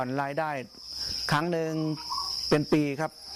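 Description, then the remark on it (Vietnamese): A steady, high-pitched trill of farmed crickets chirping continuously throughout, fairly loud, while a person talks over the constant insect drone. “Giờ chúng tôi có thể thu hoạch dế 2 tháng một lần, nên một năm được 6 lần.”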